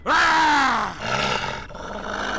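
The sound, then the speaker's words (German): People roar and scream at full volume to frighten off wolves, a loud shout with a falling pitch that breaks into a rougher, sustained cry for a couple of seconds. “Wir schrien so laut wir konnten und wir brüllten dabei unsere kleine Wikingerseele aus dem Leib.”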